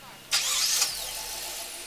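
A car engine cranks and catches with a brief high whine, then settles into a steady idle, with a bit of background murmur, as the driver moves from a check-in point to a COVID testing canopy at a drive-through site in the parking lot of Gateway Technical College's campus in Kenosha.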